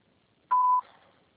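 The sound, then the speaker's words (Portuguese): A single steady electronic beep, about a third of a second long, at a clear mid-high pitch, sounding alone: the signal on a Portuguese-language phone line after a call is forwarded to the voicemail box, marking the start of message recording. “será sujeita a cobrança após o sinal. Após o sinal, grave sua mensagem.”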